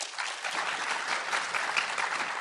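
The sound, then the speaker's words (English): An audience claps steadily, a dense wash of many hands at an even, moderate loudness that holds for the whole stretch without building or fading. “Okay, if you think that world populations will stabilize around 2050 is the fiction, applaud.”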